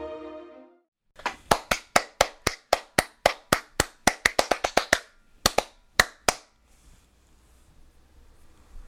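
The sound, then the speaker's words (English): A run of about twenty sharp, loud hand claps in a steady rhythm that quickens briefly, then a short pause and two final claps, preceded by a brief tonal sound. “After the intro, all that clapping.”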